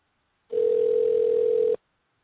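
A single ringback tone from a phone call being placed to dial in a caller during a live broadcast, one steady electronic buzz lasting just over a second, clear, with no one talking.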